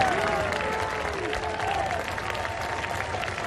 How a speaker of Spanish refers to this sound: A la llegada de Pedro Sánchez, abucheos. Y a la llegada del rey, vivas al monarca.